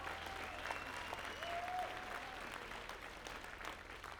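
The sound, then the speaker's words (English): A concert crowd in Chicago applauds the touring opening bands steadily throughout, dense clapping filling the space with a few faint whistles over it, sustained at an even level from start to finish. “They're on tour with us, so if you could give them a round of applause.”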